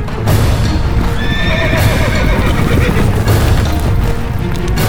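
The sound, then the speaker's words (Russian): A horse whinnies loudly near the start while heavy hooves gallop past, a dense, continuous pounding that rumbles on for the whole stretch. The horse is Sivka-Burka, ridden by Ivan the peasant's son, galloping toward the palace. “Смотри, как пронесся. А вы видели, какой у него конь?”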